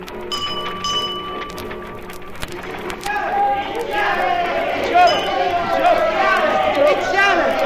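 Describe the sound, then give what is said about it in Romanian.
A bustling crowd presses around a newspaper seller on a New York street, many overlapping voices chattering and calling out, swelling in after a couple of seconds of ringing bell-like tones and staying loud and busy to the end. “Mulțimea se îmbulzește în jurul vânzătorului de ziare.”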